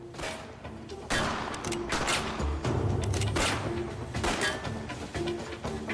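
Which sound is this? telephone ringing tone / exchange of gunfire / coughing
exchange of gunfire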